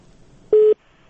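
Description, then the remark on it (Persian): A single short, loud telephone tone, a steady electronic beep lasting about a fifth of a second, the signal of a listener's call to Radio Azadi being cut off, standing alone against a quiet line hiss. “بله بفرمایید صاحب متاسفانه دو تلفن هم قطع شد.”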